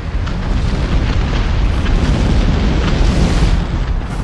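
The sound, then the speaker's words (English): A volcanic eruption roars continuously as orange, yellow and red lava shoots upward and falls to the earth: a loud, deep, rumbling blast with a dense low-end boom and crackling hiss, sustained without pause and with no voices. “Orange, yellow, and red lava shoot upward and fall to the earth.”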